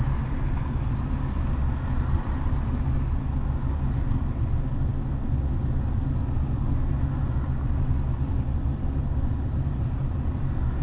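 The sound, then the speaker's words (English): A car engine idles steadily in stopped traffic on the interstate on a hot day, running at over 200 degrees, a continuous low rumble heard from inside the vehicle, unchanging and fairly loud throughout, with no voices. “Hopefully my car won't overheat. I'm over 200 degrees now.”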